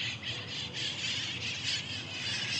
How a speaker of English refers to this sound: Now, you could probably hear these birds here, and you're probably thinking, …, you're a liar.